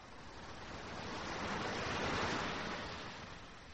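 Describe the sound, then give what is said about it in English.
Sea waves break on a shore, a broad rushing surge that swells to a peak midway and then slowly recedes, with no voices present. “The sea.”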